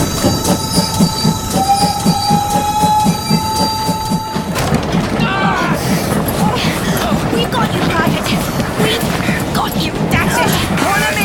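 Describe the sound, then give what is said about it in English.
A train thunders on the rails, wheels squealing in high sustained tones at first, then a dense rumbling clatter of cars rolling past at full volume, with voices faintly mixed in. “Oh, God, the train's nearly on top of us.”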